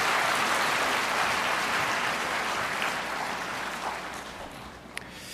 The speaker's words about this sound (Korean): 다시 한번 박수 보내주시기 바랍니다.